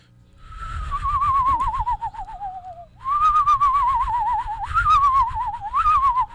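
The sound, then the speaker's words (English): A person imitates a screech owl's trill using saliva at the back of the throat: a wavering, gargling whistle sustained for about three seconds, then repeated in a second longer trill with a couple of rising lifts, clear. “That's called their trill. Oh, okay. That's kind of cool. That's kind of a pretty sound. And I have attracted owls, screech owls doing that.”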